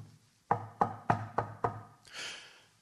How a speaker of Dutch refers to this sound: Plotseling horen ze op de achterdeur een luid geklop.